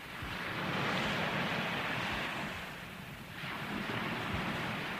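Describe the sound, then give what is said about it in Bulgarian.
A continuous, fairly loud roar of ocean waves and wind at sea, easing briefly partway through before surging again. No voices are heard. “Не ми остава друго, освен да се оставя на вятъра и на вълните.”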